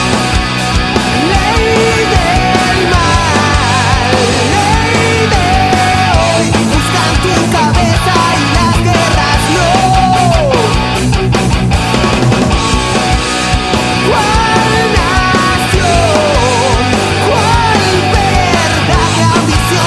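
A heavy metal song from a band's third album, released in 2015, plays loud and dense throughout, with driving distorted guitars, pounding drums and a wailing lead vocal soaring over the wall of sound.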